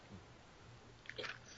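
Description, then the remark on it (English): Green mint gum being chewed: quiet, moist smacking and squishing that swells into a brief cluster of louder chews near the end, over a faint low hum. “Hey, you better chew it slowly.”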